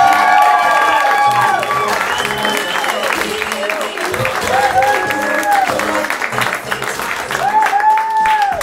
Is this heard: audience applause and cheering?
yes